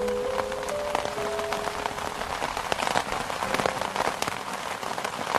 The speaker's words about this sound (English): It's the best season of the year. I'm the happiest person on earth when it rains.